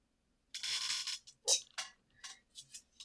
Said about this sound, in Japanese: 今、椅子がギシギシ言ったはず。